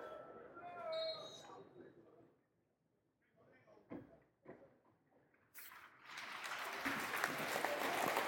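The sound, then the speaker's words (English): At a Millwall football match, faint voices fade into a hush for an expected minute's silence, a few isolated claps break the quiet, then a large stadium crowd bursts into loud, sustained applause as a mark of respect for Dave Mehmet, continuing steadily to the end. “We've been turned into a round of applause.”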